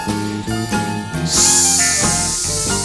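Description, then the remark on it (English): A long, loud hissing "sss" sound, the letter S sound, made by a voice imitating a snake in a children's song, held steadily for about a second and a half over bouncy music playing throughout. “Now, come on, all you children, and make that S sound with me.”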